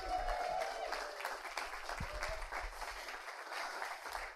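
A crowd applauds steadily for the next storyteller coming up at a story slam event, a dense wash of many hands clapping at once, with a few faint cheers mixed in, holding fairly even loudness throughout.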